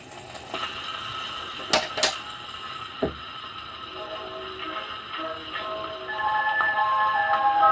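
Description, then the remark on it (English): Mechanical clicks and clunks as a wind-up gramophone is wound, its platter brake released and the platter spun, with two sharp knocks and a later thud, followed by a steady scratchy hiss and faint tones as the needle is set down and the record begins to play. “Wind up, you have to release the brake on the platter, give it a spin to help it start going, and then set the needle down.”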